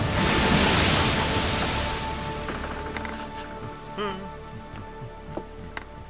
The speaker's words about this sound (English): Doubts and questions nagged at him like the waves that slapped at the bow of his ship.